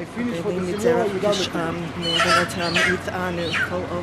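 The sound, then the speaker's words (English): A chicken clucks and squawks in agitated bursts as a man swings it over a woman's head during a prayer ritual, while several people talk indistinctly around it in a busy, noisy setting. “Luckily for her, there's a very nice Israeli man who offers to swing the chicken over her head for her after she says the prayer from a laminated card.”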